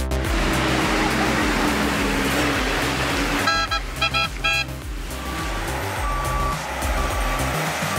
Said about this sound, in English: A convoy of logging trucks transporting freshly harvested timber is en route to Seeberg, Switzerland.